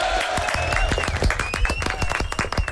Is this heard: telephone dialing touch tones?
no